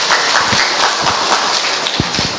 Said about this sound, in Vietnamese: Dạ, thưa con một tràng pháo tay chúng ta chào mừng hai bạn này.